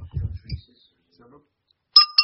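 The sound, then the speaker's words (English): A couple of low muffled knocks, a short quiet pause, then two bright, ringing clinks of a drinking glass in quick succession near the end. “Here, I got a glass.”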